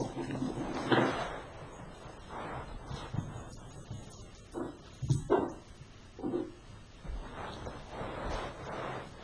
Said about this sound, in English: Behind me, our puppy was going onto the bookshelf and picking up his bones. And he was deciding from one bone to another. And he'd pick it up and put it down. He'd pick it up and put it down.